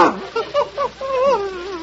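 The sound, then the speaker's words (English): An Airedale dog named Adolph yips a few times in quick succession, then lets out a longer, wavering whimper that slides down in pitch, fairly loud. “Here he is, Mr. Montague. The Airedale that's going to work with you.”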